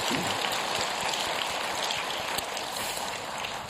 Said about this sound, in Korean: 모든 분들에게 또 하나님께 감사의 박수를 드리겠습니다. 감사합니다.